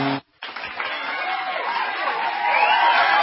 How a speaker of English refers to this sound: Final 5 seconds here at the Wachovia Center. Listen to this crowd as the Flyers score the empty net goal. Ole, ole, the Flyers beat the Canadiens in 5, and they're headed to the Stanley Cup final.